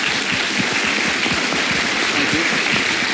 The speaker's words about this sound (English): Thank you to Governor Markell and members of his cabinet for coming down and sharing your thoughts with us tonight. We appreciate it very much. Let's give him a round of applause right now, please.